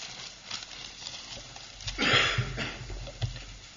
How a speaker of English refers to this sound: no coughing in the service, please. Very idea, come to the house of God coughing, carrying on.